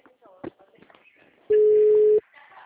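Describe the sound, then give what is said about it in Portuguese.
A single loud, steady ringing tone on an outgoing phone call sounds for under a second at one flat, mid-low pitch, after a stretch of faint, murmured talk. “Não, tá chamando? Vamos ver.”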